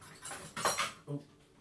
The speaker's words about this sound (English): that was the ironing board that you could hear creaking there. Ironing board set up.